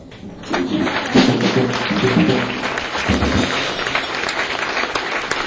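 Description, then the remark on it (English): A crowd breaks into sustained applause welcoming Bill Cosby, a dense wash of many hands clapping that swells quickly after a brief quiet start and holds steady and loud, with some cheering voices mixed in. “And we're not going to have them stand up because we don't want to go through changes, but we'd like for you to welcome, with a round of applause, Mr.”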